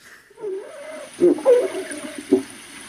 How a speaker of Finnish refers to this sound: Onko tässä nyt jotain neuvonpitoa hylkeiden kesken meneillä? On. Eli tämä liittyy mittaukseen keväällä tai alkukesästä. Eli tässä on tällaista populaatioaktiivisuutta.